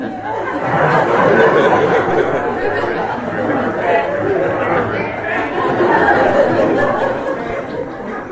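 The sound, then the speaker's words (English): A crowd of voices imitates frog croaks all at once, a dense, overlapping chorus that stays loud and steady throughout, with bits of laughter mixed in. “And they all started making the sound of frogs.”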